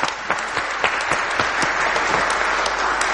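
A room full of people clapping steadily, a dense wash of overlapping claps with some sharper individual hand strikes standing out, sustained at an even loudness throughout without any talking.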